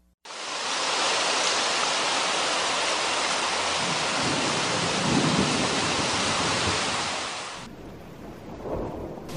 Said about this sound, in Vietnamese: Ngoài kia mưa rơi như nước đổ.